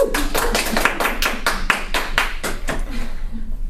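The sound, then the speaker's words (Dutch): An audience at a GGD, at the last Tele Arena of 2016, claps loudly and steadily, the sharp bursts coming in a fast, fairly even rhythm from start to finish with no voices. “Hier wordt er wel even heel hard geklapt.”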